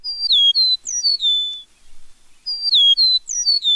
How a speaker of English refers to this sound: Well, thanks to the folks at the Cornell Lab of Ornithology, we found the call of the eastern meadowlark, and we'll let you be the judge.